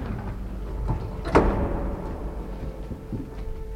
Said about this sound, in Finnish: Nyt suljen oven ja painan nappia.